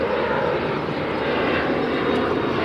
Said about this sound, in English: It's right next to LaGuardia Airport, so I can watch these jumbo jets soar in for a landing. Here's one now overhead.